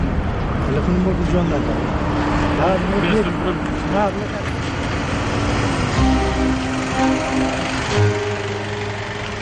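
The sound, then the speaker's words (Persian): Steady roadside traffic noise on the road between Mosul and Erbil, with engines humming and droning at shifting pitches as cars pass in both directions, a continuous, fairly loud rumble with faint voices mixed into the background. “تردد خودروها از سمت موسل به اربیل و برعکس رو میبینیم.”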